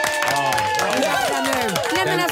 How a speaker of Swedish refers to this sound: Har du en liten applåd för det, va?